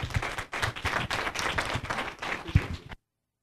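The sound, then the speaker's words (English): An audience claps together in a dense, steady burst of applause lasting about three seconds to thank a man for what he is doing there, then cuts off abruptly into silence. “Would you clap for Matt right now and just say thank you?”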